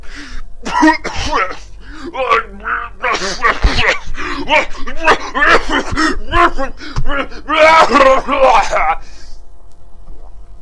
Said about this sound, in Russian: Да я не смеюсь, я кашляю. Я кашляю.